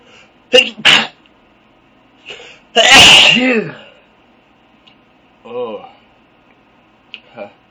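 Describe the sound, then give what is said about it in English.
A couple of quick breathy catches lead into one loud sneeze with a burst of air and a voiced trailing end, followed by softer sniffs and small vocal noises. “I'm going to sneeze.”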